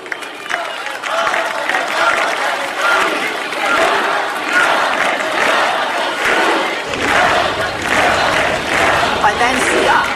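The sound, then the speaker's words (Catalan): A large crowd chants and shouts for independence in unison, a loud, sustained roar of many voices with rhythmic surges and bursts of cheering running throughout. “Aquesta Europa que ens mira ara amb aquestes eleccions convulses i amb aquest crit d'independència que avui se sent aquí.”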